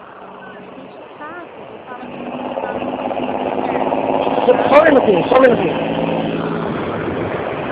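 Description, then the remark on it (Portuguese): A heavy truck engine rumbles as it passes on the street, its drone building over several seconds and peaking loudly, while a person speaks briefly at the start. “É que eu tô na rua, passou um caminhão horrível.”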